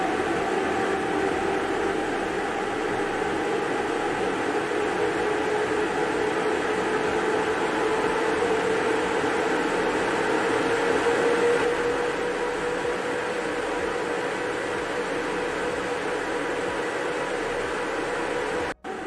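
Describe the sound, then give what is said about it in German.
A Formula 1 car engine roars loudly and steadily for the whole stretch, with a faint whine that slowly rises in pitch beneath the dense noise before it cuts off abruptly. “Formel 1 Auto.”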